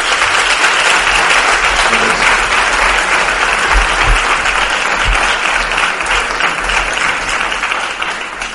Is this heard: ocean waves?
no